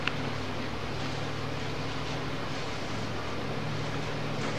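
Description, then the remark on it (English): A man revs an engine that runs loudly and continuously, its low droning hum buried in a thick, steady roar of rushing noise, with no clear rises or pauses and no voices. “This is hard with this guy revving his engines here.”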